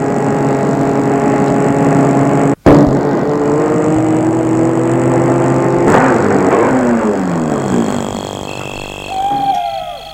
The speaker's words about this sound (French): Il a arrêté la voiture en rase campagne.